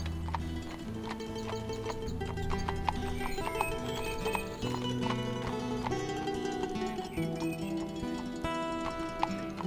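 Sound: horse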